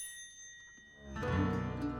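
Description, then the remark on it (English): A steady, bright electronic chime tone rings alone, announcing 60 minutes to energy curfew; then about a second in a louder, fuller harmonic swell of sound rises and sustains to the end. “At the chime, there will be 60 minutes to energy curfew.”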